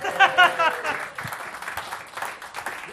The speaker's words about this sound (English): You can clap now.